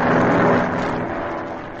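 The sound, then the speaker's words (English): A steady, loud airplane engine drone of a plane flying toward Ghost Town, a dense rumbling roar with a low throbbing hum underneath, holding constant before easing slightly toward the end. No voices are heard. “Well, as the scene opens today, Squeaky and Sputters are in the plane flying toward Ghost Town. Listen.”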